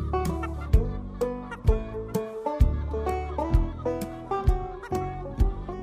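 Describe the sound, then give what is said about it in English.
Chickens of a whole range of ages on a farm cluck in a steady run of short, repeated calls, several overlapping at once, moderately loud, with no talking over them. “You know, and you're going to see a whole range of ages of birds here on this farm.”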